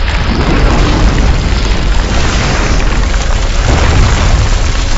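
Burning brimstone crashes into buildings all over a city in a continuous, loud roar of deep rumbling booms and dense crackling hiss. There are no voices and no break across the whole stretch.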